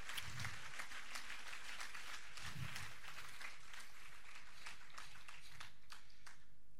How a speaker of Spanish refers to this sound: Fuerte aplauso, Cristo.